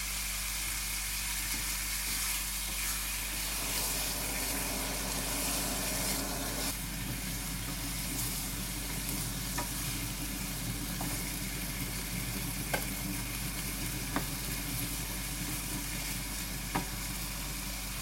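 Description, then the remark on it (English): Chicken sizzles steadily in a frying pan, a continuous crackling hiss with occasional faint clicks and pops, no voices present. “Right, now that's partially cooked, so what I'm going to do is turn that down and then I'm going to lift it out with a slotted spoon.”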